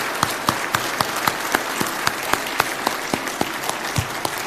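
A crowd applauds steadily for a group of women volunteers, many hands clapping in a dense, continuous patter with a few sharper claps standing out, moderately loud throughout.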